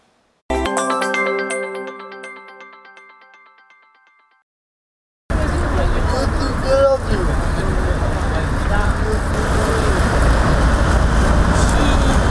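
A brief ringing musical chime fades out, then a steady, loud wash of busy street traffic in a hot, crowded capital city in summer takes over, with engines rumbling and a bus among the passing vehicles.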